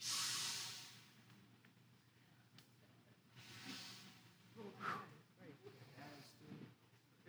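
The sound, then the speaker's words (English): A loud breathy exhale hisses out at the start and fades within a second, given as the sound of the breath of life during a Yom Teruah teaching, followed by softer breathy sounds and a quiet voice speaking. “The sound that is the breathing of life.”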